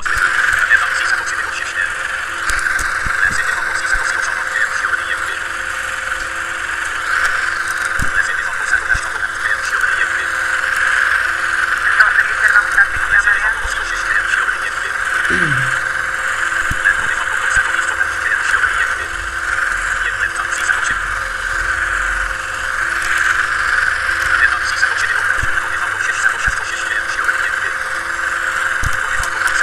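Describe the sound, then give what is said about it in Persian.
A steady, high-pitched airplane engine whine drones continuously and fairly loudly during landing, with no breaks, while faint voices murmur now and then underneath. “حالا اگه شو این کار میکنم به خاطر صدای موتور هواپیما میگم.”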